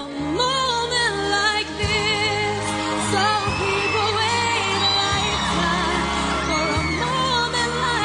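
A live singing performance with a sustained backing band, a soaring vocal over steady bass notes, and a constant wash of screaming, cheering fans filling the background throughout.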